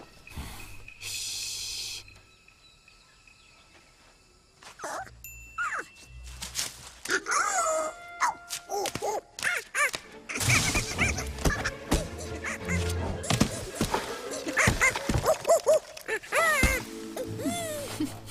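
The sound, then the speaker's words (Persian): Monkey calls: scattered chatters and hoots at first, then a loud, dense chorus of overlapping shrieks, snorts and wailing cries, with no one talking. “نکنه از میمونا میترسی؟”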